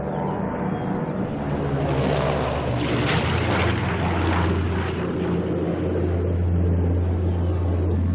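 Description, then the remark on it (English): A Buffalo C-46 propeller plane, manned by two young pilots, drones steadily and loudly throughout, a deep engine rumble with a broad roaring wash that swells slightly midway. No one speaks. “And bringing up the rear, Buffalo's C-46, a plane that Arnie flew hundreds of times, manned by two young pilots that he himself trained.”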